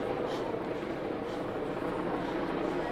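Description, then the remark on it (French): A helicopter hovers in place over the avenue Alsace-Lorraine, near where it meets rue de la Pomme, its steady, loud rumbling drone filling the air without a break for the whole few seconds. “L'hélicoptère est totalement au-dessus de cette partie-là, de l'avenue Alsace-Lorraine, la partie qui va en direction des Augustins.”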